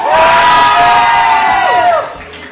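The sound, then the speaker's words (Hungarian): A group of people on a terrace cheers and shouts together in one loud, sustained, high-pitched roar lasting about two seconds, then the voices slide downward and break off. “Halljuk nálatok forró a hangulat”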